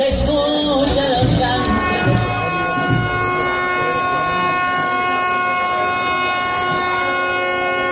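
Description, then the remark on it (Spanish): Several ship sirens blare together during the maritime procession of the Virgen del Carmen at the Burela festival, in a sustained, overlapping chord of steady horn tones, loud and continuous for the whole stretch, with a faint murmur of voices and bustle at the start. “Ya que estamos hablando de fiestas de Burela, un poquito de sonido también de las fiestas de Burela con las sirenas de los barcos en medio de la procesión de la Virgen del Carmen.”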